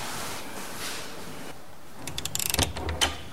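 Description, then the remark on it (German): A door is eased open quietly at night by a wake-up service in a dormitory: after a hushed pause, a quick run of soft latch clicks and rattles, then a final light knock of the handle, faint. “Die ganze Nacht hindurch eilt der Weckdienst über die Flure, öffnet vorsichtig Türen und sucht nach der richtigen Bettnummer.”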